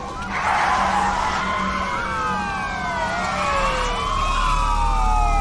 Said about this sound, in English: Police cruisers arrive.